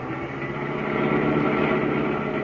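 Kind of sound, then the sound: vehicle, car engine driving fast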